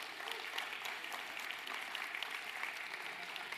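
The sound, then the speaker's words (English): A church audience claps in a steady round of applause as Kids Church and the youth group are dismissed, a dense, even wash of many hands that holds at a moderate level throughout with no voices standing out. “You're dismissed with a big old round of applause.”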